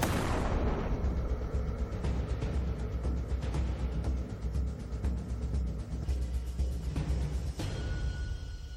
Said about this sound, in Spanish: En unos segundos se escuchó una gran explosión.